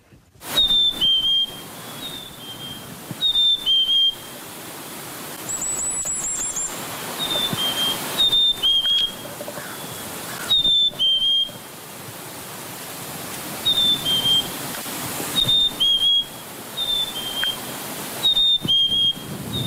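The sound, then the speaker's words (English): A chickadee's spring song, also known as the phoebe call or cheeseburger call, from a Xeno-canto recording by Jonathan Jongsma: clear, high two-note whistles, the second note slightly lower, repeated about every two to three seconds over a steady hiss of background noise, with no talking. “And to bring us out today, we have the Chickadees Spring Song, sometimes known as the Phoebe call or the cheeseburger call.”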